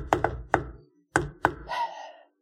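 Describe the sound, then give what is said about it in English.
Knocking on the door of a house: three quick, solid raps, a short pause, then two more, followed by a brief rough rattling noise as the knocks fade. No one answers or speaks. “I knock.”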